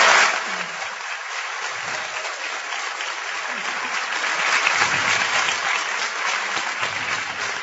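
An audience breaks into sustained applause for a translator's translation skills, many hands clapping in a dense, steady patter that holds at an even loudness for several seconds without fading.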